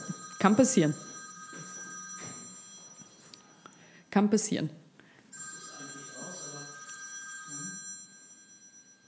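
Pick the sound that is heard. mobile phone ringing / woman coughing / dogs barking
mobile phone ringing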